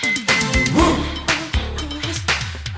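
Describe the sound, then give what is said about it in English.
A dog barks in a string of short, sharp yips amid busy clinking and metallic tapping, the barks fairly loud within a cluttered mix of sounds. “This dog is coming out of them.”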